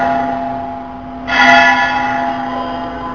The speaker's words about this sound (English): Very nice bell, very good bell. It's because this bell is mixed up with the sound of Rasabihari's flute.